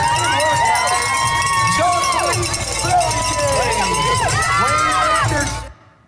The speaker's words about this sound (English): 1.2 mile swim, 56 mile bike ride, and 13 mile run. And here he is at the finish line as they're cheering him on.